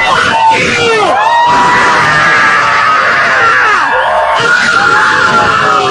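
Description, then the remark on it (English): A crowd screeches, hisses and yells at a lone female protester all at once, many shrill overlapping voices rising and falling in pitch, loud, with a hissing wash of noise underneath throughout. “Now everyone's hissing and screeching at her. They're having a screech off.”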